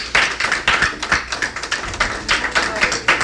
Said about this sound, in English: Come on, get the Lord a great big hand clap.